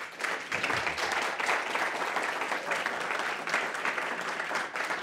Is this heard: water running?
no